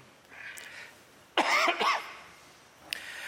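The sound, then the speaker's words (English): A single harsh cough from a speaker who has had a cough for several days and is on antibiotics bursts out in a quick double heave after a moment of near silence, followed by a faint brief click. “I'm on antibiotic, so maybe I will be coughing.”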